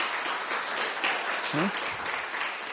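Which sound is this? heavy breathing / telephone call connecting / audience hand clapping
audience hand clapping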